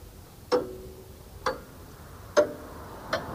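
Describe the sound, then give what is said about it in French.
Three pendulum clocks in a café tick in sharp, clicky beats, four distinct ticks at uneven, slightly erratic intervals, fairly crisp, each with a brief ringing tone, with no voices; the clocks have suddenly gone mad, their hands spinning at full speed and backwards. “Personne ne comprit pourquoi les 3 pendules de l'établissement devinrent subitement folles.”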